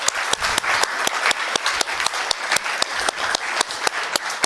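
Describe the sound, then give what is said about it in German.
An audience applauds all the project groups at a Jugend-Hack event, many hands clapping in a dense, continuous patter with a few sharper claps standing out at a fairly regular beat. No one speaks over it. “Einen großen Applaus für alle Gruppen noch einmal.”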